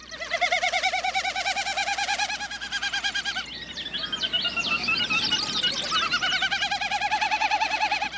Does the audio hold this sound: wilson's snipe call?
yes